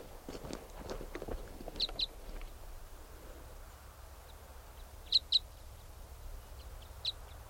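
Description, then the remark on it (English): Wild Type 5 birds give short, sharp, high-pitched call notes, mostly in quick pairs, repeated a few times with one loud pair midway. One bird calls in response to another Type 5, 395, which is loud; the two call back and forth, apart from one another. Soft steady background and brief early clattering. “7:59, there's another Type 5 bird around, calling in response to 395, who's loud there, and this bird might come in.”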